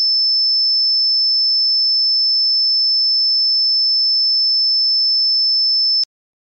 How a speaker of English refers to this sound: Let's listen to what is considered to be a classic tone that is indicative of tinnitus, and then we're going to compare it to this other sound. Listen to this.